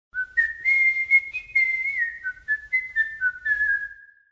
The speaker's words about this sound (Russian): С тех пор, если Эрнест совсем падал духом или страдал физически, он беспечно насвистывал, желая показать всем на свете, что происходящее с ним – ерунда.